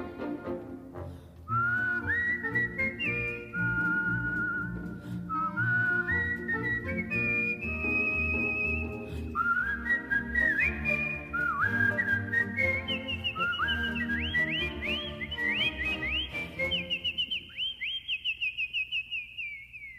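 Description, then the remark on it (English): Someone whistles a bright, lilting melody in clear rising phrases over steady instrumental accompaniment, the tune climbing higher toward the end and holding a long final note. “When they're sorely pressed, they whistle for a spell, and whistling seems to brighten up their day.”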